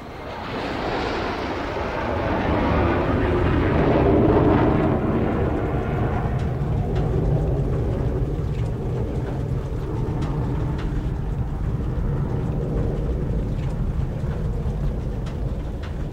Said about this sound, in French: Des avions, on en a pas mal. Et on a aussi des avions de ligne, même si on n'a pas le bruit, on les voit souvent passer.